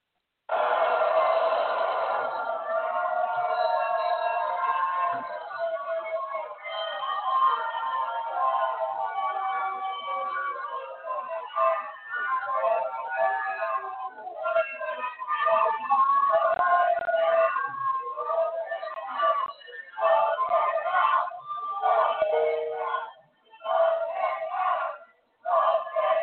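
A large crowd at the Supreme Court building, where Ruth Bader Ginsburg lies in repose, boos President Donald Trump loudly and steadily on his arrival, the noise later turning into rhythmic chanting of "vote him out" with short pauses between phrases. The sound is muffled and thin, like a broadcast recording.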